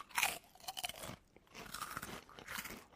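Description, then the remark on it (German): Crisp crunching of a crunchy snack, not tried before, in several bursts, bright brittle cracks separated by short pauses, loud with no talking. “Wir können ja mal hier, habe ich noch gar nicht probiert. Knuspern.”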